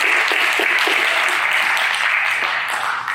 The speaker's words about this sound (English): So can we give them a hand clap for making all this stuff happen? Thank you, guys.